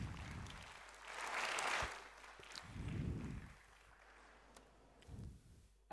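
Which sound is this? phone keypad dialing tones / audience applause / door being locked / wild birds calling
audience applause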